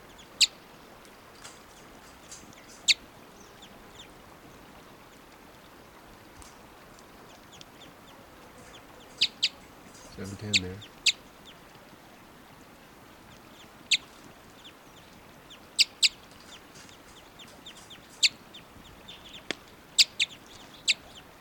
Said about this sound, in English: Bird 710 gives occasional type 5 calls, and birds are right here. That was 710. Type 5.